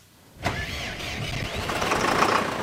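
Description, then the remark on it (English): A heavy diesel tractor engine on a wheat, corn and beet farm in the Polish village of Kojenice, 9 miles from the Ukrainian border, cranks and catches after a brief quiet moment, then settles into a loud, steady rumbling run as the tractor is checked. No one speaks. “checks a tractor on the farm where he grows wheat, corn, and beets in the Polish village of Kojenice, just 9 miles from the Ukrainian border.”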